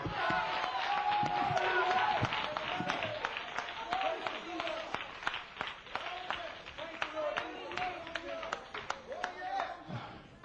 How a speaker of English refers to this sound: Give God a hand clap tonight.